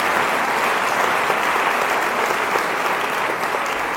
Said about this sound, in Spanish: Démosle un aplauso fuerte a Jesús nuestro Señor, que es nuestra esperanza.